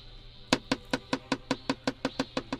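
A knife chops hard and fast on a cutting board through tough, sinewy beef shank during food preparation on a stage, about a dozen firm, evenly spaced thuds in a quick steady rhythm, with no voices.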